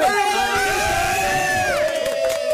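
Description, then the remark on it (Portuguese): A group of people cheers and whoops loudly for a couple of seconds, several voices holding high sustained shouts, with a few claps breaking through toward the end. “Não, um aplauso, bora.”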